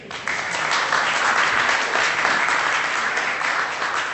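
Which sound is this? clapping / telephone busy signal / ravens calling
clapping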